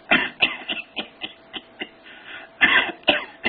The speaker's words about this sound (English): You know what they call that? Staccato cough. So when you see that term on the board, it's staccato cough. That's that's chlamydia trachomonas pneumonia.